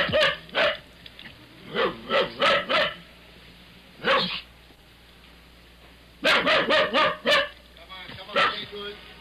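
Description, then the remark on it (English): A dog locked in a car barks repeatedly in quick bursts of two to five sharp, somewhat muffled barks, with short pauses between volleys, loud against a low background hum. “And I listened to a doorman talking to a barking dog locked in a car.”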